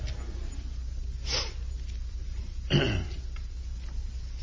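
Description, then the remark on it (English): Two rough coughs about a second and a half apart, the second a little louder and harsher, over a low steady background hum with no talking. “Of course, this time of the year, with all the pollen, we can always find something to blame it on, can't we, when we cough and carry on.”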